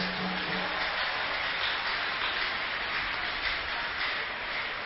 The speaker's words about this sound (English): Can we clap our hands for our God?